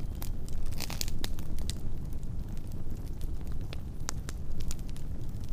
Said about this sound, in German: Das Lagerfeuer vor dir brennt in einem so wunderschönen Spektrum von lebendigen Farben, die sich in einem hypnotisierenden, beruhigenden Tanz vereinen.